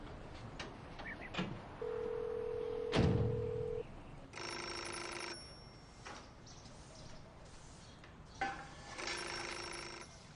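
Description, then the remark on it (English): A telephone rings in two separated bursts, a few seconds apart, with a steady tone and a thud just before. There's no talking. “If my mom picks up the phone, just hang up.”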